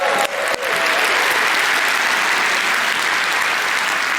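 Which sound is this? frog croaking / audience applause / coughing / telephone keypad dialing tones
audience applause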